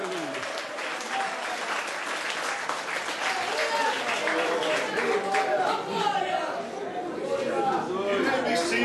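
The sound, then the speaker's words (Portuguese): An audience gives the Lord a round of applause, sustained and steady over the whole stretch, dense and loud, with scattered voices and cheers mixed into the clapping. “Glória a Deus, dê ao Senhor uma salva de palmas.”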